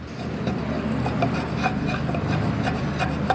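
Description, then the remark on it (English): Steady scraping of a blade shaving wood to make a more pointed end while making a hammer, with repeated rasping strokes at a fairly even rhythm and no voices. “You're just shaving lots off so that I suppose you're making a more pointed end.”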